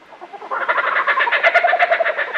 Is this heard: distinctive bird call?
yes